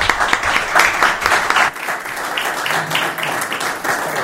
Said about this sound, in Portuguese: Muito bem. Uma salva de palmas.